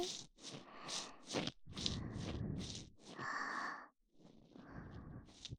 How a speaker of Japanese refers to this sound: お耳に当たる温かい吐息、気持ちよくてたまらないよね。